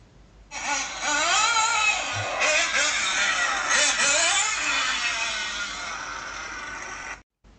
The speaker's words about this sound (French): Je vais me piloter des voitures télécommandées.